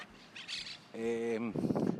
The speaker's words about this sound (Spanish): pajarillos piando, que estos ruidos le gustan mucho a Raquel Cordonier. Ahí se les oye.